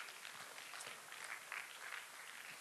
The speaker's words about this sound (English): So now you're thinking, I don't know who I'm clapping for,